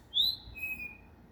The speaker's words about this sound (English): You should be able to hear that bird. I'm right below him.